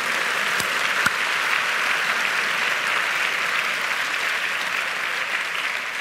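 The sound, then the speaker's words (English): Steady, dense clapping from an audience fills the whole stretch, a continuous wash of many hands at an even, sustained level without pauses or voices. “We're applauding them.”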